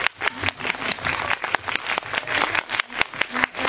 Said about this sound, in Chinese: 大家也可以掌声欢迎。